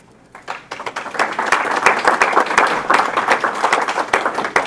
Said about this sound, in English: Sure, applaud him.